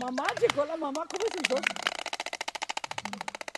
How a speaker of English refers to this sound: She even has a way with the great storks that seem to answer her by clicking their beaks.